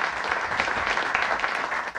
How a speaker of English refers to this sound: we'll give the plumber, give the man a round of applause there.